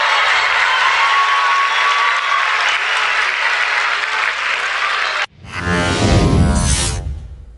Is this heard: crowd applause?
yes